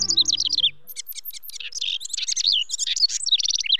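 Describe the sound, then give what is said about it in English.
A male house wren sings a rapid, bubbling cascade of high chattering trills and warbles, loud, pouring out continuously for several seconds, with a brief low hum fading at the start. “There may be no busier bird during the nesting season than a male house wren, because just a day or so after migrating back north from the tropics, he claims a territory and sets to work checking out potential nest cavities.”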